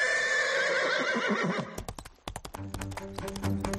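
A horse neighs loudly with a long, wavering whinny, then its hooves clip-clop in a quick series of sharp knocks, with no one talking.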